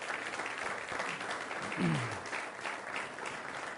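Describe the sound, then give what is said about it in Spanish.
A crowd applauds steadily, with dense, continuous clapping at an even loudness. Partway through, a short falling vocal cry rises briefly above the clapping. “Fuerte el aplauso.”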